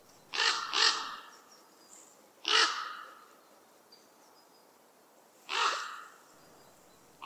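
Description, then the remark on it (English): Four deep, guttural raven croaks ring out, two in quick succession then two spaced apart, loud with a slight echo, and no other sounds between them. “because they have a really guttural tone and call that carries. It's so low.”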